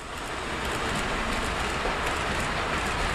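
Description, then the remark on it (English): A model train from a model train collection runs steadily along its track, producing a continuous whirring, rolling rumble at an even level throughout, with no voices. “There are photos of the model train collection at WSHU.org, and you can see the real thing this Saturday at St.”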